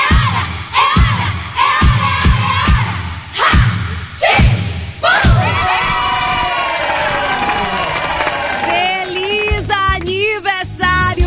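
A crowd chants a Portuguese birthday cheer ("é tique, é tique") to steady rhythmic claps or thumps, then bursts into loud, sustained cheering and shouting, with high excited voices rising near the end.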